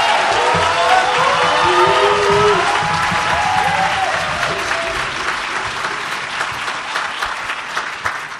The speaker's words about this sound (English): Please greet them with a hearty hand clap. Y'all can do better than that.